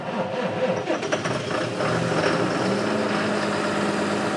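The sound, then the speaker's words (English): A big diesel engine of a large farm tractor turns over and settles into a steady, rumbling idle, with a continuous low drone and mechanical clatter filling the whole recording. “He had to build a shed the size of a warehouse for his machines, like this monster tractor.”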